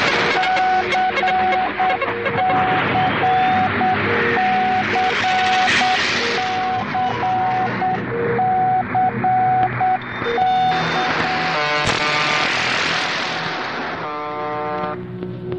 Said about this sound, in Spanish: Eran emisoras que emitían zumbidos, pitidos, números y eventualmente nombres de personas.